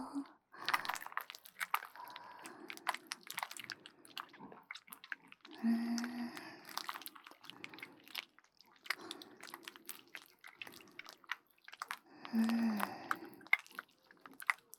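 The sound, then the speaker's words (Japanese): Lotion squelching in the ear as a stick is inserted and the lotion soaks into the dry ear: a steady stream of soft, wet crackles and squishes, with two louder, thicker squelching bursts partway through, then settling back to quieter sticky clicks. “乾いたお耳の中にローションが染み込んでいきますよ。”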